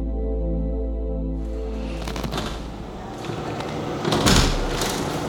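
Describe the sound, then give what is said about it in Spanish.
A battering ram pounds a wooden tower door, planks cracking and hinges groaning through dense, noisy impacts, with one especially loud, heavy crash near the end. No one speaks. “El crujir de los tablones y los chirridos de los goznes gimieron como un juglar desafinando, extendiendo su música aciaga por las galerías de la torre.”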